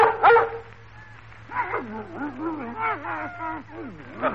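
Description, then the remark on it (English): Two dogs, a male and a female named Flash and Muggsy, are put in together. A sharp bark or two at the start, then a long run of high, wavering whimpers and whines rising and falling in pitch, over a faint steady hum. “I'll not have a dog running over my bed of prize petunias.”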